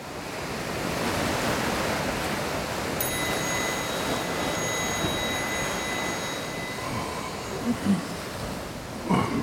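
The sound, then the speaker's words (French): Foamy ocean surf rolls and breaks around a tiny island in a steady, continuous roar, fairly loud, with no voices. A faint high ringing tone hovers partway through, and a few soft thumps come near the end. “Des vagues, toujours des vagues, mousseuses, bien lisses, vides ou habitées. On n'entend qu'elles parmi ce sourd silence.”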